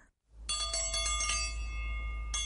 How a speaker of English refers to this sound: If the Victorians needed something from the kitchen, they simply rang a bell to summon a servant to deliver it to them.